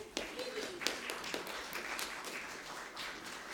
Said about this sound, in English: Come and take a seat over there. Let's all give a big clap.